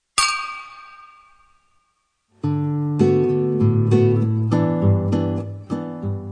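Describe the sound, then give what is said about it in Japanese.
A single bright clink of glasses in a toast rings out and slowly fades over a couple of seconds, then steady music with rhythmic beats takes over. No one speaks. “じゃあ乾杯しましょう。”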